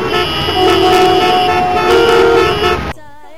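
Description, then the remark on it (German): Loud, dense traffic with several car horns honking continuously over engine rumble for about three seconds, then it cuts off abruptly and a voice begins speaking. “Egal, kommen wir zum Verkehr.”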